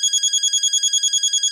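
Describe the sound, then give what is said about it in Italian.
A telephone rings with a rapid, trilling electronic warble, a high-pitched tone pulsing about ten times a second, steady and fairly loud with no voices. “Senti, guardo ancora, poi ti richiamo.”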